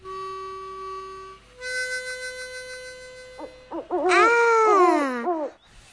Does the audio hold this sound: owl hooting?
yes